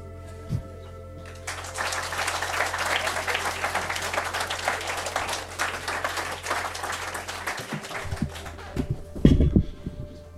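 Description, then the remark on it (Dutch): An audience breaks into loud, sustained applause, dense clapping that lasts about six seconds before fading out, followed by a few thumps and handling noises. “En dan, als wij beginnen te lopen, dan gaan jullie heel hard klappen.”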